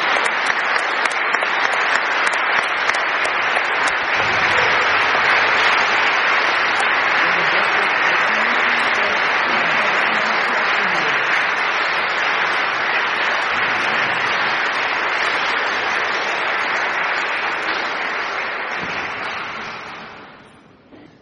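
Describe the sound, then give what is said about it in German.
At a wedding, an audience claps steadily for about twenty seconds as guest singers from a Bible school in Colombia go up to perform. A dense, sustained wash of applause holds at an even level and then fades out at the end. “Ihr dürft noch mal klatschen jetzt auf dem Weg.”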